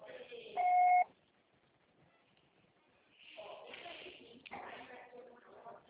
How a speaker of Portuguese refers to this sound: Grave seu recado. Você só será atendido após o sinal.